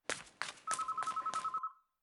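A telephone rings with a steady, trilling electronic tone that pulses rapidly for about a second, preceded by a few soft thumps, then cuts off into silence.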